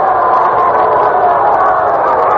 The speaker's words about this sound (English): Fans are booing one of the special policemen here at the park. One of the kids leaned over the rail to get a foul ball.